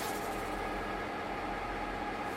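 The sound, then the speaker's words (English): A steady, continuous rumble of a historic train running along the rails down the Barren Gorge to Cairns, heard from on board as a constant low roar with a faint hiss and no voices. “I would like to welcome you on board the historic Hollandic Phoenix Railway.”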